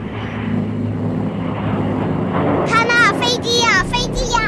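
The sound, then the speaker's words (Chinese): A biplane's engine roars loudly and low overhead as it sweeps past a neighbouring farmhouse and over the field shrubs, a steady propeller drone filling the whole clip, while children's excited shouts and cries rise over it in the second half. “突然一阵巨响轰然化空而过，一架双翼飞机轰隆地掠过邻家的农舍，低空飞过田间的灌木丛之后向上爬升，随后便消失在天空。”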